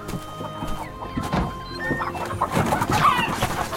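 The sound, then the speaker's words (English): A great big flock of pet chickens cluck and squawk in a busy, overlapping chorus, with short choppy calls and a few higher squawks, steady and moderately loud throughout. “I hate chickens.”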